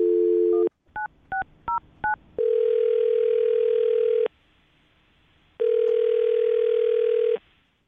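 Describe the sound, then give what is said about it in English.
A steady dial tone cuts off into four quick touch-tone beeps, followed by two long, loud ringing tones separated by a pause. No one speaks. “I'll dial the phone number right now.”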